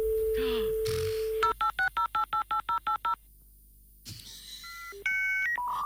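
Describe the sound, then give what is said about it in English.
A 56K dial-up modem on a PC connects to the internet to load a page, as in 1997: a steady dial tone, a quick run of about eight touch-tone beeps, a brief pause, then the start of shrill electronic handshake tones, loud, with no voices. “C'était la séquence que tu devais lancer avec ton modem internet.”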